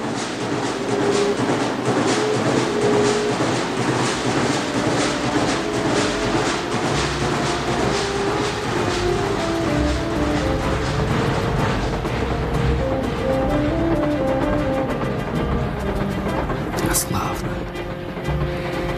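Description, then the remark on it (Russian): Steady rumble of a moving train with repeated rhythmic clacks of wheels over rail joints, continuous and fairly loud, with indistinct voices murmuring underneath. “Просыпаться в поезде. Колеса стучат.”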